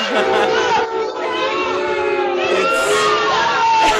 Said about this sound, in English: That crowd is getting nasty. Right? Can someone call the police?